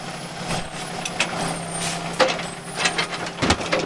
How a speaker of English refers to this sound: So you ever been in a garbage truck before?